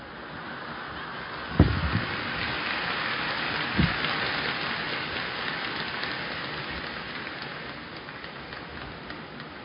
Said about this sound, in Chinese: 你等等啊，下雨怎么下得这么大？求求菩萨小一点。